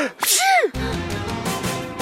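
A young man sneezes once, sharply, right after putting on a hat, caused by an allergy to feathers: a quick voiced intake rising into a bright, breathy burst, then a steady musical background continuing after it.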